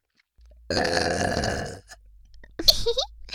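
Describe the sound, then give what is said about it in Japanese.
A long, loud, rumbling double burp from two people at once, given as a farewell, lasting about a second, then a short pause and a second, higher-pitched belching burst. “お兄さんに感謝を込めて、最後はダブルゲップでお別れするね。”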